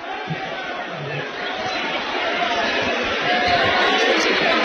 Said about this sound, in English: Almost a capacity crowd. There are some empty seats across the way, but not very many. What a great crowd, and what has been a good game.